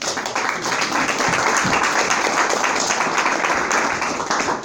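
A crowd applauds steadily, with dense, continuous clapping that holds at a fairly loud level throughout, blending into a broad wash of noise without a clear rhythm.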